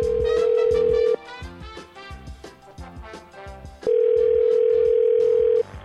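A loud, steady telephone dial tone, heard before a prank phone call, hums for about a second, breaks off, then returns for nearly two seconds, layered over bouncy rhythmic music playing throughout.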